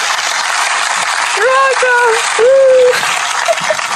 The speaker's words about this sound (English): Nah, I'm going to put an applause. Okay. Just omit it later. Yeah. Okay, it's applause. Where is it? Applause. Later be applause.